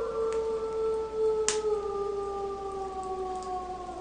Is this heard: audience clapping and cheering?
no